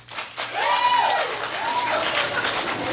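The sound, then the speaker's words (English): An audience applauds to vote that something is romantic and really sweet, breaking into steady, dense applause that starts abruptly and holds at a fairly loud level, with a few rising and falling vocal whoops or cheers mixed into the clapping. “Okay, so romantic, really sweet, applaud now.”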